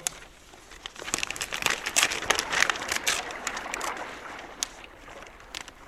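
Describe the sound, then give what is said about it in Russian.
Crisp crinkling and tearing of paper as a mail package from Murmansk is opened, a burst of irregular rustles and crackles that peaks midway then settles into a few sharp snaps, with no talking. “Так, дайте-ка мне вон тот пакет. Так, вскроем его.”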